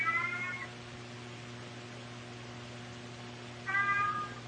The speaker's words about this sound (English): Is that your kitty?